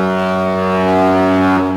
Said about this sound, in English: Thank you, Greg, for the foghorn.